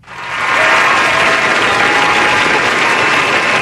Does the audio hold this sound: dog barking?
no